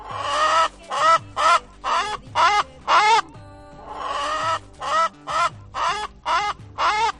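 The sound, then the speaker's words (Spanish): Hens rescued from cages cluck at the farm La Granja de la Abuela Pilar in Casas de Bes, Albacete, Spain, in a loud, steady run of about a dozen sharp, squawky calls in quick succession, with a short pause midway and no voices. “Ahora estas gallinas que estamos escuchando”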